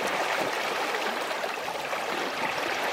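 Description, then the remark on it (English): Water rushes steadily past the hull of a wind-driven sailboat, a continuous hiss and gurgle that stays even throughout with no voices. “I like the way that sounds.”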